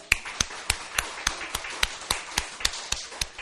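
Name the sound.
audience clapping hands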